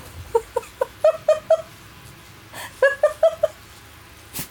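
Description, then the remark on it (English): A dog lets out two quick runs of short, high-pitched whimpering yips, fairly clear, with a brief pause between the bursts. “Well, everyone, I disturbed the dog.”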